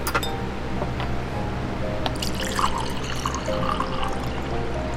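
Cold water pours steadily into a glass, with a faint clink near the start and a continuous bubbling, splashing flow that runs for several seconds.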